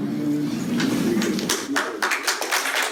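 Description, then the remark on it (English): A crowd of school leaders reacts, a low murmur of many voices chiming in, then giving way to scattered, uneven clapping that carries on for a couple of seconds. “You hear the crowd of school leaders chiming in there.”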